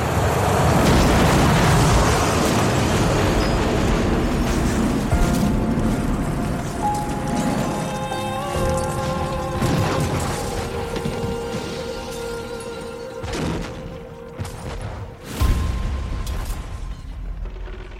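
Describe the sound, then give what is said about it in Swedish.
A massive crashing boom echoes across an airport as a KLM jet's engines and underside collide with a Pan Am jumbo jet, opening loud and broad, then a long rumbling, grinding roar with metallic tones and scattered bangs and cracks that slowly fade, with one last heavy thud near the end. “Ett fasligt brak ekar över hela flygplatsen när KLM-planets motorer och underdel kolliderar med Pan Am-planet.”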